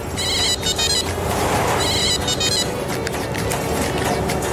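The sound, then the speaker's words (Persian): A mobile phone ringtone chirps in two short bursts of bright, rapid electronic tones, played against a loud, constant rumble of background noise. “کیه؟ ها؟ ماماست؟ چی میگه؟ نگاه کنم اینه بده من. آقا مرد حساب موبایل منه آقا.”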